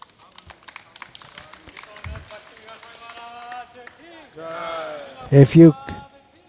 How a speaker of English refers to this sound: If you clap, Hare Krishna. If you clap, I think I did something wrong. I didn't come for getting applause. It's not meant to be entertainment.